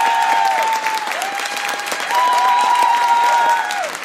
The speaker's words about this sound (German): Und jetzt euer Applaus, okay, jetzt für die Frage von